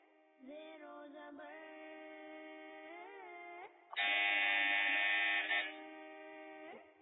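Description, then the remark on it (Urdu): A loud, harsh quiz buzzer, pressed by a contestant on a Quran quiz show, blares for about a second and a half, rising sharply above a steady, droning electronic tone that hums on with a few pitch bends before and after. “Buzzer press کی ہے.”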